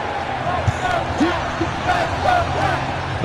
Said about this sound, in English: This poor cat. Yeah. Pretty scared right now. The crowd cheers.